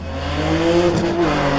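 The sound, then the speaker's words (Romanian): A drift car engine revs hard and steady, its droning roar rising slightly, with brief hissing bursts of tire squeal cutting through near the end, at the national drifting championship at Transilvania Motor Ring. “L-am cunoscut pe Matei la campionatul național de drifturi de la Transilvania Motor Ring”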